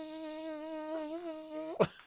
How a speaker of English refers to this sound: As you see a mosquito land on your arm.